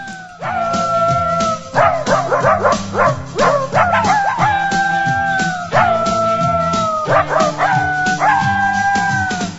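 Several dogs bark and yip in quick repeated bursts, mixed with longer drawn-out howls, fairly loud, with a low background hum and no talking.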